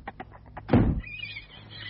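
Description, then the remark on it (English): A male horse in the stables neighs excitedly as he sees a woman arrive: a few quick breathy pulses, a loud rough burst, then a high, wavering whinny that trails off. No one speaks. “was screaming with excitement as he saw her.”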